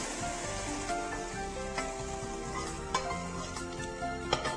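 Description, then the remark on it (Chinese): Steady sizzling of beef being stir-fried in a wok until fully cooked, its bloody juices seeping out, with occasional sharp clinks and scrapes of a spatula against the pan; no voices. “好，你看啊，它炒熟了之后呢，好，那个血水会慢慢一直释出来。好，这个时候可以起锅咯。”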